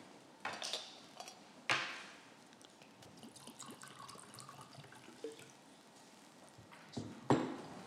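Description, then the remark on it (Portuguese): Water is poured into a glass during a committee session, with a soft, steady splashing, framed by several sharp clinks of glass and bottle knocking together at the start, middle and end. “E como eu há pouco dizia, se não se importa, posso tirar aqui um bocadinho de água.”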